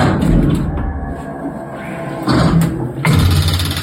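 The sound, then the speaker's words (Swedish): An automatic door opener, marked with black and yellow tape, at the entrance of a vision centre (syncentralen) runs with a steady low mechanical hum and rumble, then the sound swells and shifts twice as the door swings open and lets in broader noise. “Och även en dörröppnare som har en massa svart och gul tejp för den som kan se. Jag använder den idag också.”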